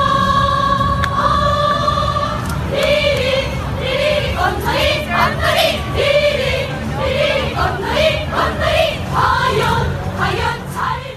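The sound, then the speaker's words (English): A large North Korean cheer squad chants loudly in unison, starting with a long sustained group tone and breaking into rhythmic, punchy syllables that pulse steadily for several seconds over a dense crowd backdrop. “Why don't we start with the North Korean cheer squad first, and let's listen to a little clip of them in action.”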